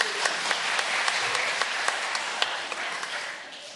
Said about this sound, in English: Excellent, thank you very much. You can have a seat. Give our unwilling volunteer a round of applause.